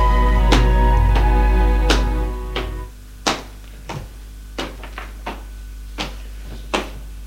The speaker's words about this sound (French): Un domestique lui ouvre la porte et il sort.